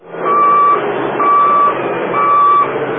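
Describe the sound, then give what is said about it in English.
Three evenly spaced high-pitched reversing beeps from a public works truck sound over a steady rumble of engine noise as trucks line up to load sand onto their flatbeds for sandbagging, loud, with no voices. “Public works trucks line up to load sand onto their flatbeds.”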